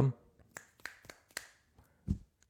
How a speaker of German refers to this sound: Ich schnipp mal mit dem Finger.